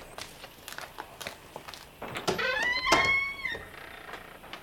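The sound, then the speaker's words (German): A red Citroën pulls up in front of a boat rental with a short high brake squeal, followed by a door and a few footsteps on a hard surface as a thin man gets out and walks toward the door; no one speaks. “Während er noch überlegte, hielt vor dem Haus ein roter Citroën. Ein hagerer Mann stieg aus und ging auf die Tür des Bootsverleihs zu.”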